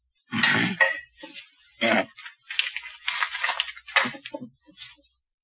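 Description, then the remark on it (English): Keys taken out of a pocket jingle and clatter as they are set down on a table: a few bright metallic bursts with rustling in between, over about five seconds, with no talking. “Keys.”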